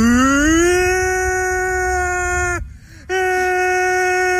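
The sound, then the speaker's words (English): A voice imitates a tornado siren: a loud, steady, buzzing wail that rises in pitch, holds, breaks off briefly for a breath, then resumes at the same pitch. “And he's like got a ridiculous amount of views, hundreds of thousands of views because he does a tornado siren sound effect.”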